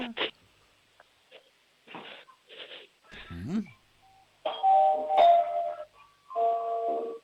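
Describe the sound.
After a few brief bursts of talking and small noises, a doorbell at the entrance door loudly rings out a short melody of several clear, sustained notes at different pitches.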